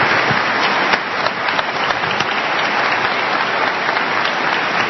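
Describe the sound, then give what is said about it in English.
An audience claps steadily for several seconds, a dense, even wash of many hands with crisp transient spikes scattered throughout, sustained at a constant loudness with no voices. “And the obligatory applause.”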